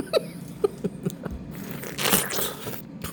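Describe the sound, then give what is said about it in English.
Wet, crunchy bites into a juicy Warren pear, a variety originally from Mississippi and grown in California, followed by moist chewing, a few sharp crisp snaps early on, then a louder slurpy, juicy stretch of mastication. No one speaks. “If the sound of eating pears with sheer delight has you salivating, get yourself to a pear orchard in early autumn for yet another reason”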